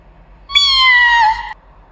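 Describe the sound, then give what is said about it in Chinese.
A single drawn-out cat meow, clear, lasting about a second with a slight downward bend at the end, alone against a quiet background. “我又听到了一声猫叫”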